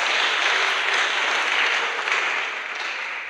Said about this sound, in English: Clap your hands.